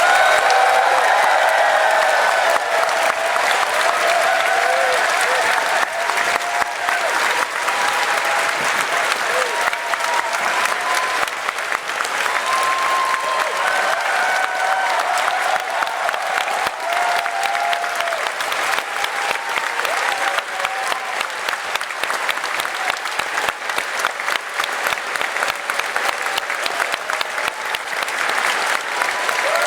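A large audience applauds the event team for about thirty seconds, both those present and those still on the site, a dense, loud wash of many hands clapping at once with some scattered cheers mixed in.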